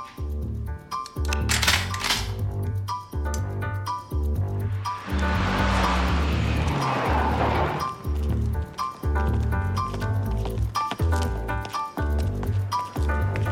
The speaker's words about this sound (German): war da nicht gerade unser Auto?